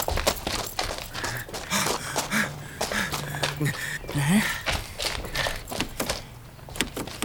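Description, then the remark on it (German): Repeated clicks and rattles as the locked door handles of a white panel van are tugged and tried without opening, scattered irregularly over several seconds with some heavy breathing in between. “Die Türen sind alle verschlossen.”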